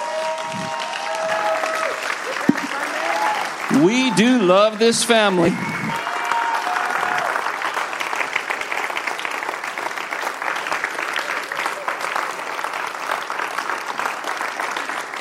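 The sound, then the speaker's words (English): An audience breaks into sustained applause, a dense wash of clapping that continues steadily for several seconds after a man briefly speaks over a microphone. “Oh, you're going to get some applause here.”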